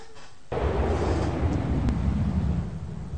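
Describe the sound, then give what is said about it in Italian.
A wind sound effect, put on as background, kicks in abruptly after a brief quiet moment, then keeps up a steady, loud, rushing roar with a deep rumbling low end until the end. “Perché è caldo, hai messo un po' di vento.”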